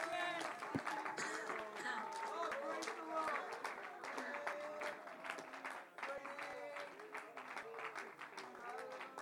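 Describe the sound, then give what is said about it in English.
An audience at a church service claps hands to the Lord in a dense, steady patter that runs the whole time, with loud voices rising and calling out over the clapping. “Oh, let's clap our hands to the Lord today.”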